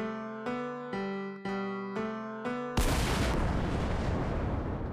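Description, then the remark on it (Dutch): Several short, evenly spaced musical chord stabs build up, then a loud cannon boom bursts in and rolls on as a sustained, noisy roar to the end, with no talking. “Volgens mij heb jij een kanon, wat werkelijk hier een gat in de muur hebt blazen. Ik zou zeggen, laat het maar bulderen!”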